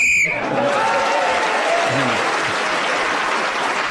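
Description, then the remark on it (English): A short, shrill whistle blast, blown to end a round of a panel game while Giles was speaking and gaining him an extra point, cuts off right at the start, then loud, sustained applause from the audience fills the rest of the moment. “So Giles was then speaking as the whistle went, gained that extra point.”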